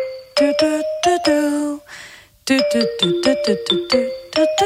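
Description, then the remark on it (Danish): A bright, synthetic phone ringtone plays a bouncy children's tune, with crisp repeated melodic notes in quick rhythm, briefly pausing before the jingle resumes, loud. “Det lyder jo som en ægte ringetone, det her.”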